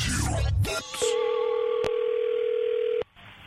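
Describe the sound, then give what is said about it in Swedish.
A brief burst of dialing noise gives way to a steady, clear telephone ring tone held for about two seconds, with soft clicks on the line before it cuts off, as Peter Magnusson makes a prank call to a pharmacy, Kronans Apotek. “Och han ringer till ett apotek.”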